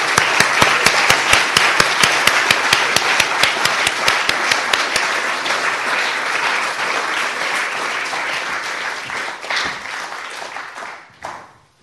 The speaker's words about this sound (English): I think everybody should give everybody a big clap and congratulations again.